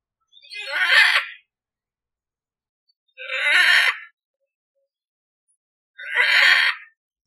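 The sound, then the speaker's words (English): Three loud, harsh squawks of a macaw, a type of parrot, each about a second long, evenly spaced with silent gaps between them. The calls are raspy and grating, with no other sounds. “The macaw is a type of parrot. His squawk sounds like fingernails scratching on a chalkboard.”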